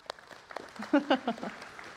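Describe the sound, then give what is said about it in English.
Scattered, soft handclaps from a small group, with a few short voiced cheers rising briefly in the middle before the clapping thins out; applause for people going on a Costa Rica trip. “Can we give them a little round of applause?”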